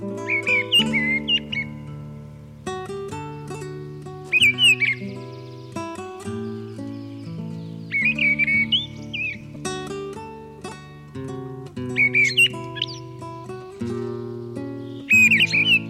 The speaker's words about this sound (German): Das war die Misteldrossel.